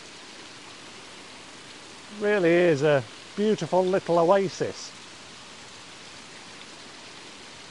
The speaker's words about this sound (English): It's known as Allen Spring. And it's a series of little eddies of water cascading over that tougher rock, which is clad in this soft, bouncy moss. The water is trickling down into the pool at the bottom, separated by two waterfalls.